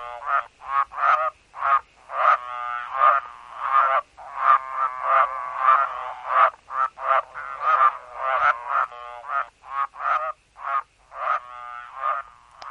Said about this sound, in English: Burrow's tree frog has an unusual call. What do you think it sounds like?